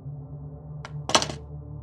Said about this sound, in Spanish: Cerca de la mitad escuché un golpe seco desde el pasillo, algo así como el de una escoba cayendo al suelo.